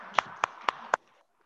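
Brief applause at a municipal council meeting, for a member whose resignation was just accepted: four sharp hand claps in a steady, even rhythm, about a quarter second apart, moderately loud, followed by quiet. No one speaks.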